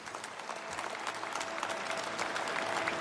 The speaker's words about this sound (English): Applause for Dikembe Mutombo at the Basketball Hall of Fame.